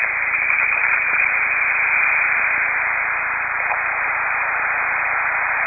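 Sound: rain falling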